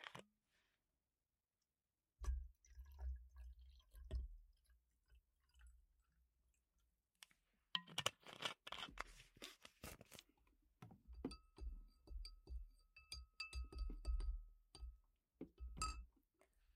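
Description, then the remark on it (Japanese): Glass clinks and handling thumps, then plum wine (umeshu) is poured into a glass with a trickling, rising tone, and more light clinking. No one speaks. “今日は梅酒の準備してまーす。”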